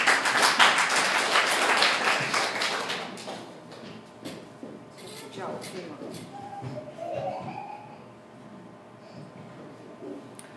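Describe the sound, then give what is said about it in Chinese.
An audience applauds the actors after a stage play, loud, dense applause that lasts several seconds, then thins out into scattered claps and soft background murmur. “哇，太棒了，我们再给他们一个掌声。”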